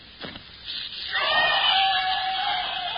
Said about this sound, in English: You will hear them scream.